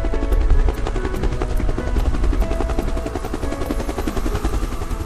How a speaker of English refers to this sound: I see a helicopter.Let's ride in the helicopter.